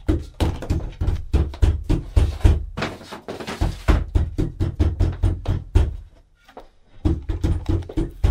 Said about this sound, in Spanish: Voy a trancar la puerta con algo más.